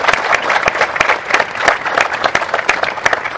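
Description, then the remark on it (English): An audience applauds steadily, many hands clapping in a dense, even patter, with a few sharper individual claps standing out throughout, sustained and fairly loud with no talking. “So before we start, a big round of applause for all the people here who have done us so very proud.”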